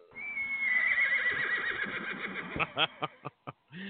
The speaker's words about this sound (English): The horse has shown up. Late.